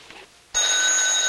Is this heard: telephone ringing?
yes